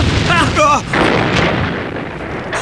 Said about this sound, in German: Eine Explosion im Spukhaus! Und ziemlich heftig sogar.